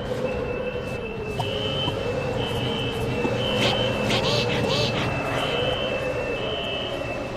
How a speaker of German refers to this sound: Alarm 2.